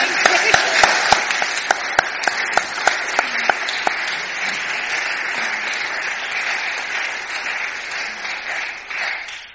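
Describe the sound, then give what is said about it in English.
A church audience in Malvern breaks into applause to welcome a newcomer, opening with sharp, evenly spaced claps that quickly merge into a dense, sustained wash of clapping from many hands, holding steady before tapering slightly at the end. “So I'm just going to ask people to join in with me clapping, and then I'll pray for you.”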